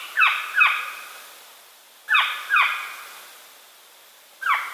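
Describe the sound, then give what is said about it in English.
A northern saw-whet owl, one of North America's smallest owls, gives harsh, raspy fall skew calls, clear, in quick pairs: two pairs a couple of seconds apart, then a single call starting at the end. “In the fall, the birds make a skew call.”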